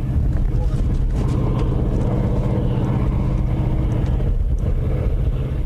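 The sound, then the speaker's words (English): A steady, low rumbling roar of huge ore-hauling trucks near the bottom of the Empire iron mine near Marquette, Michigan, more than 1,200 feet deep, heard from an observation plateau; continuous and droning throughout with a faint windy hiss on top, never rising or fading. “From an observation plateau, huge ore-hauling trucks near the bottom of the mine look small and only create a small roar.”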